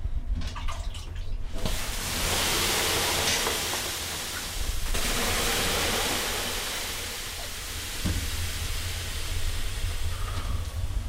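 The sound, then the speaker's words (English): Water is poured onto hot sauna rocks in two scoops, followed by a loud, steady hiss of steam that fills the space, with the second pour surging up partway through. No one speaks. “Mike starts up the main event, pouring water on the rocks”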